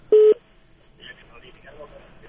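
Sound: telephone line tones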